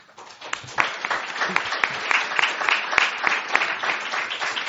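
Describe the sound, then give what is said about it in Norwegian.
An audience at a debate breaks into steady applause after a speaker's contribution, a dense wash of many hands clapping at a fairly even level throughout, with no voices standing out above it. “Det er veldig hyggelig å klappe, men hvis vi klapper etter hvert innlegg, så tror jeg ikke vi rekker gjennom den debatten her.”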